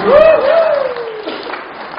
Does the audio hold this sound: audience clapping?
yes